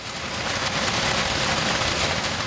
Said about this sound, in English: Rescue workers defy the heavy downpour that has not ceased for 3 days as they search for victims and survivors.